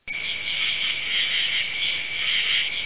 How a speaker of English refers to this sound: Nothing. Crickets.